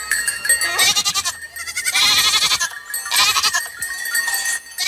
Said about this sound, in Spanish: Pues escuchan a unas cabras con sus cabritillos en pleno monte.